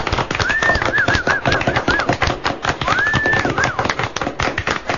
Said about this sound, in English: Would you please put your hands together for the greatest radio studio orchestra in all of Kirkwood,